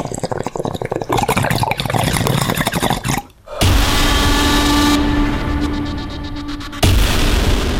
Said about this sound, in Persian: قلیان ها برای چه کسی قلقل میکنند؟ یا قلیان شناسی با تنباکوی فرد علا و زغال دو آتیشه؟